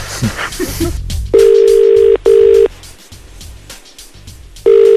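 A phone ringing out on the line: a steady, mid-pitched double ring burst, a pause, then another ring starting, after a few soft clicks at the start.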